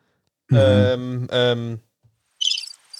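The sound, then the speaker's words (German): Two loud, low, drawn-out calls with a rich, buzzy tone, then a short flurry of high, thin bird chirps at the end. No one speaks. “Das Vögel vielleicht.”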